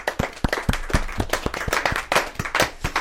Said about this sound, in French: C'était merci. Magnifique, on pourrait même applaudir. Allez.